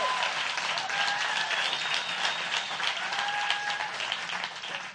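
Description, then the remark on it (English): A crowd applauds the worship team steadily for several seconds, a dense, even wash of many hands clapping at a fairly strong level, with faint tonal whistles or cheers rising briefly through it. “Can you give our worship team a good round of applause?”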